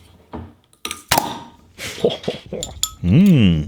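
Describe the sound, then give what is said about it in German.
Glass bottles of Ambra Mandarine clink together sharply a couple of times in a toast, bright, followed by people talking and a drawn-out voiced cheer. “Prost.”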